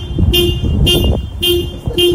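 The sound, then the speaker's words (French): A car horn honks four times in an uneven rhythm as a small dog in the car presses the steering wheel, each blast short and loud, with road and engine noise rumbling steadily underneath. “D'un petit chien qui est en voiture et c'est lui qui klaxonne plusieurs fois comme ça sur le volant.”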